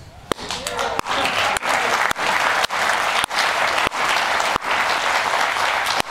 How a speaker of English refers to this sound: Why are they clapping for you in the studio, man?